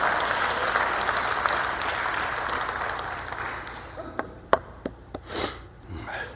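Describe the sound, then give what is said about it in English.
An audience applauds in a dense wash of clapping that fades out, ending with a few scattered, sharp individual claps. “Thank you for the patty cake, but I think we can get all to come to repentance.”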